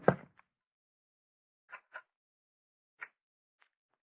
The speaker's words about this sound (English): I wonder, could I open his door just a little without his knowing it?